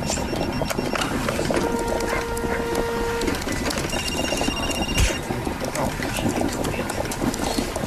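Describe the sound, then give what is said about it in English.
An office coffee machine, in a recording from soundsofcolleagues.com, bubbles and gurgles steadily throughout, layered over a constant mechanical hum with a few brief high electronic tones. “The bubbling is the coffee machine.”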